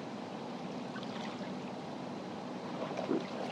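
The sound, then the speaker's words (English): A sailboat moves steadily through the fresh water of Lake Michigan, with a continuous wash and gurgle of the hull cutting the surface. No voices, just the constant rushing swish throughout. “I am sailing on Lake Michigan, a freshwater lake.”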